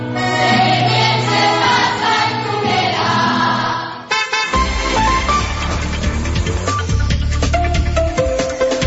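A radio jingle that is not the weather forecast theme plays: full, loud music that cuts off partway through, then a brighter melodic tune with ringing, bell-like notes over a steady low bass. No one talks.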